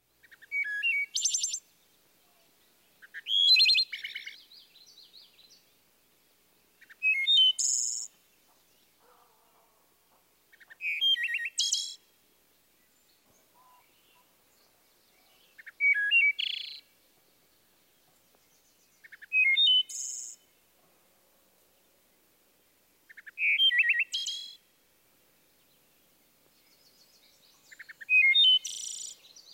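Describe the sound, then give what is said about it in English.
A wood thrush sings clear, flute-like phrases, each ending in a thin trill, repeated about every four seconds with short pauses between. Loud, no other sounds. “Here's the wood thrush again.”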